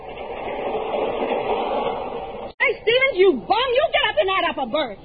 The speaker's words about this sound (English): As the Chicago train races through the night, Sapphire and the Kingfish are imbued with a happy, carefree holiday spirit.